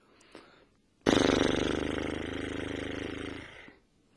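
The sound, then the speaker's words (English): A single loud, sustained buzz of loose, relaxed, vibrating lips, practised as the hoarse noise used for playing the didgeridoo, lasts about two and a half seconds. It is hoarse, rough and raspy, holding steady before it trails off, with a faint short sound just before it starts. “The aim here is for them to be really loose, relaxed, and let them vibrate.”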